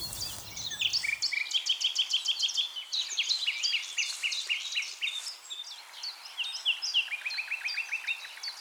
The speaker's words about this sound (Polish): I piękne, łkające sylaby i trzeszczące, typowe dla słowików. Spróbuję jeszcze podejść, może uda się go wyodrębnić troszkę.